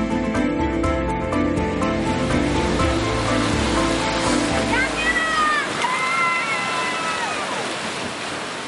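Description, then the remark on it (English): Ocean waves break and wash continuously on a beach in St. Lucia, a steady loud rushing roar mixed with tonal sounds that fade midway, leaving high wavering calls over the surf. “He's in the water getting soaked by the waves, but it doesn't matter because he's going to get the perfect shot for you.”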